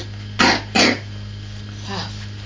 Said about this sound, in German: Schnaub mal.